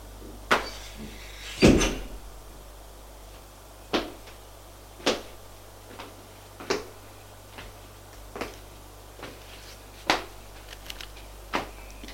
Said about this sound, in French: J'ouvre la porte, elle sort.